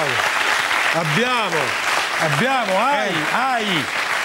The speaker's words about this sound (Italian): A Guzzanti come Saviano, abbiamo dato un brutto successone. Applauso per la Guzzanti a Cannes.